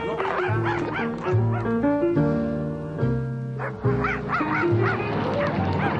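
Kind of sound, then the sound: animal, dog barking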